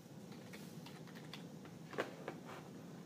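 Quick, irregular clicking of keys on a computer keyboard as a name is typed, fairly soft, with a couple of slightly louder taps standing out over a low steady background hum.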